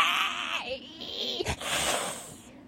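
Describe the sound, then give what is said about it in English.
A voice imitates a vampire's hiss: a strained, breathy hiss with a throaty, whining edge, held for about three seconds, briefly catching midway before trailing off. “That was a vampire hiss.”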